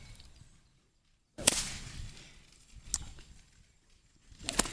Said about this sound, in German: Also es kommt da wirklich aus dem Handgelenk raus. Ich mache immer was mit dem Arm, will ich immer machen, aber das soll ich gar nicht. Das ist jetzt keine normale Peitsche.